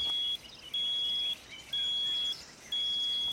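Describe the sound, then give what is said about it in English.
A high-pitched electronic beep, triggered by a trained rat signalling a positive container sample with wildlife product inside, repeats four times in a steady on-off rhythm as feedback to the trainer, each tone lasting about half a second, clear and fairly loud over faint background hiss. “If it's a positive sample, the wildlife product inside, the rat is trained to trigger the beep sound.”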